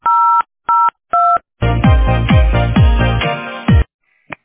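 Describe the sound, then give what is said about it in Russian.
Three short, evenly spaced touch-tone beeps dial an employee's extension on the Teploenergosbyt SPB company phone line, each a steady two-pitched tone, then a loud harsh burst of buzzing line noise with repeated low downward swoops, ending in a faint click. “Если вы знаете внутренний номер сотрудника...”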